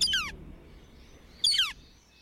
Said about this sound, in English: Now, take a deep breath and immerse yourself in the soothing sounds of this northern flicker. Don't you feel more relaxed?